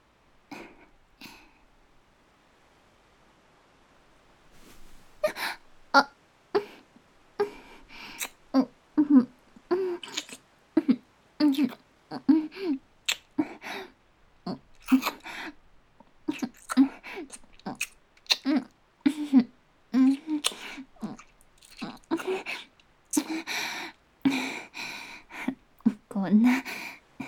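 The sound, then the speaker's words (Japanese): Intense, wet kissing sounds close to the ear, repeating in quick, irregular bursts with soft breathy hums between them, following a few seconds of near silence. “こんな激しいキスをして、もうさっき猿じゃないって宣言されたのは一体どこのどなたなんでしょうか。”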